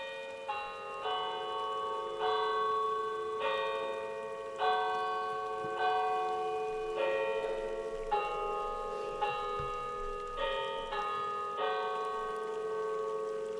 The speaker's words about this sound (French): Aussitôt que l'Angélus sonne, il est censé qu'il fait nuit.